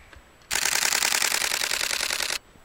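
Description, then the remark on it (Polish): A camera in burst mode fires a rapid burst of shutter clicks while photographing a coal tit, a fast, evenly spaced, crisp rattle lasting about two seconds, loud and alone against faint background hiss. “I spróbuję ją chwycić serią.”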